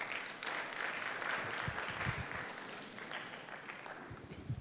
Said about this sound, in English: Stand on your feet. Yeah, clap for that. If you want to clap for that, Lord.